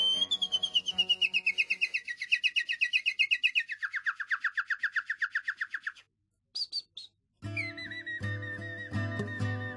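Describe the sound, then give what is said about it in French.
A member of the bird-imitating group Les Chanteurs d'Oiseaux from Picardy whistles a convincing birdsong imitation in the Baie de Somme: a long, rapid trill sliding downward, a brief pause, short high chirps, then warbling whistles over a low sustained musical drone. “parce qu'ils ont créé un groupe en Picardie qui s'appelle les Chanteurs d'Oiseaux.”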